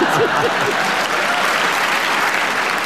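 Sustained applause from the large studio audience of the show Just a Minute, dense and steady clapping filling the space for the whole stretch, with a brief voice or cheer audible near the start.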